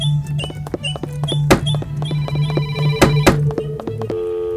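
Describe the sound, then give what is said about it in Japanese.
A telephone resembling an American telephone rings with a steady electronic tone, broken by sharp clicks and thunks like a handset being handled, then shifts to a different tone near the end. No one speaks. “The telephone resembles an American telephone.”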